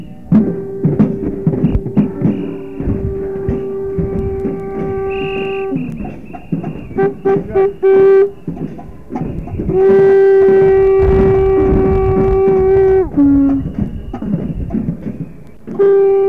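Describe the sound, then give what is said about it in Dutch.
Large conch shells, a traditional instrument, are blown at a street demonstration on a windy day. They sound in long, steady, horn-like blasts: the first is held for several seconds, and a second, louder one bends downward in pitch as it ends, over a rustling background. “Nou, wat je hoort zijn van die grote schelpen, van die grote slakkenhuizen, zeg maar, waar opgeblazen wordt.”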